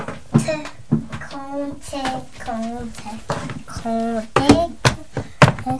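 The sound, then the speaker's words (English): A child bangs a phone, making a few sharp knocks scattered between and under the child's babbling voice, with a cluster of thumps near the end. “Yeah, don't bang the phone. Be careful with the phone.”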